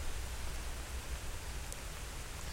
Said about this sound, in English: I'm hoping you get the background sound of all this rain, because holy crap, am I wet. Like, I'm looking out the rain right now, and it's just this sheet of water coming down. I don't know if I picked the opportune time to go for a dog walk